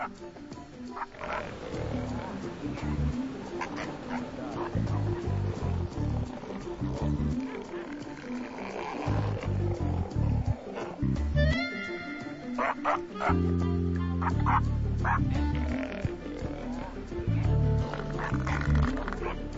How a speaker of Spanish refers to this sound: Y la colonia está inquieta. Marcela Urhart es la encargada de anestesiar a los gigantes. Los elefantes marinos son tan grandes y tan poderosos que tienen muy pocos depredadores. La verdad es que no nos temen demasiado, más bien nos desafían.